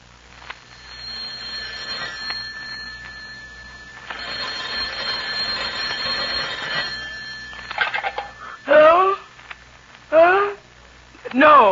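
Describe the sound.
A telephone is dialed and rings steadily through the earpiece, a continuous electronic tone with bursts of ringing, before a voice picks up and starts speaking in short phrases.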